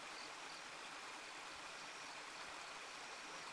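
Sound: small brook water flowing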